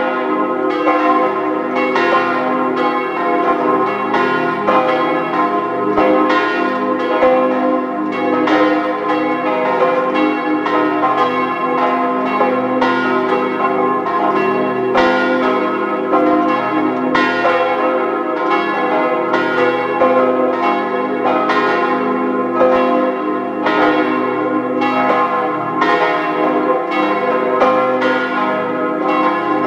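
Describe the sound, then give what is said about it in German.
Several church bells of the Stadtpfarrkirche St. Hippolyt, a parish church in Zell am See, Salzburg state, peal together at 12 noon in a steady, overlapping stream of strikes, loud and resonant with a rich ringing hum, sustained without pause and with no voices. “Es ist 12 Uhr. Sie hören die Glocken der Stadtpfarrkirche St. Hippolyt in Zell am See im Land Salzburg.”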